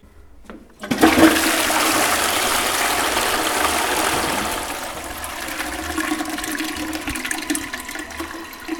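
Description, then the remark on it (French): A toilet flushes: a sudden loud whoosh of rushing water that holds steady for several seconds, then gradually settles into a softer gurgling refill. No one speaks. “Les toilettes.”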